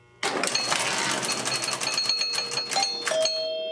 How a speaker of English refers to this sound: When the target rotates, that linkage is repeatedly pulled up and down, which in turn pulls on a leaf switch, repeatedly connecting and disconnecting the two contacts as it spins. When this target is hit just right, it's quite the show.